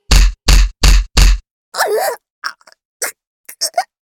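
Four heavy, dull blows to the belly land in a quick, even rhythm, followed by a strained groan and several short, pained gasps and whimpers.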